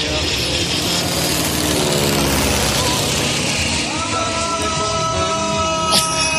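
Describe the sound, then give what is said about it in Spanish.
A loud, steady roar of a jet aircraft, with a whining engine tone that shifts in pitch as the plane seems to descend and come in to land. “Voy a coger el jet y me voy a presentar de nuevo en el estudio. A ver un momento. ¿Se ha aterrizado todavía?”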